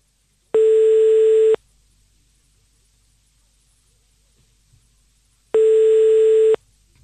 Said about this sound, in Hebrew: ועכשיו אנחנו בחיוג לזוכה המאושר ב-300 שקלים